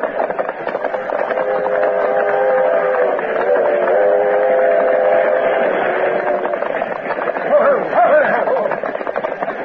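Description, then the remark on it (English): A loud, steady rumble of a westbound train rushing past fills the whole stretch, with a sustained whistle-like tone running through it and rising briefly near the end. “Time Dude and Bronk drew rein, the train had passed.”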